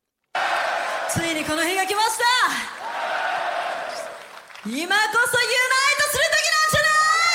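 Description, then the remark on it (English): A loud crowd cheers and screams, with many high, rising whoops layered over a dense roar; the noise eases briefly midway, then surges back just as strongly. “This is a good crowd.”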